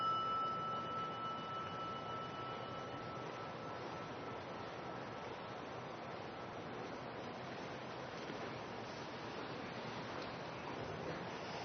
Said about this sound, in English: It's nice when the rain comes in just at the right time.